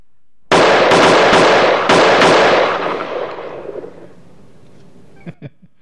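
Loud gunshots fire off in two quick clusters, cracking sharply over one another and trailing into a rumbling, fading tail, followed by a couple of faint pops at the end. No one speaks.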